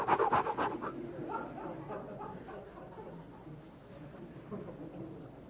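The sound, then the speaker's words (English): A voice imitates rapid, rhythmic panting breaths like the breathing taught for natural childbirth, loudest at the start, then continuing as softer, steady huffs and puffs. “So he's, they were breathing, learn how to...”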